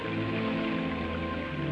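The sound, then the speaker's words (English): Steady, dense simulated rain pours down in a continuous hiss during a rain test of an airborne computer, drops pattering evenly on a hard surface without pause or variation, with no voices present. “And rain tests.”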